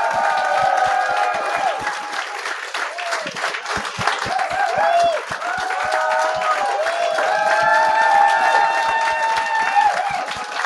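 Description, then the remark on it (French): A live audience bursts into sustained applause, dense clapping mixed with whoops and cheers, loud and close, continuing steadily for around ten seconds. “J'aimerais ça qu'on leur donne une bonne main d'applaudissement pour la 100e.”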